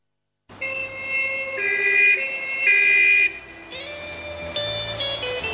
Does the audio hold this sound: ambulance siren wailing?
yes